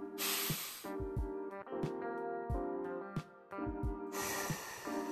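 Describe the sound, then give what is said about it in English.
A long, airy breath drawn in over a steady musical backing with thumping beats, followed near the end by a second sustained rush of breath. “Take a deep breath.”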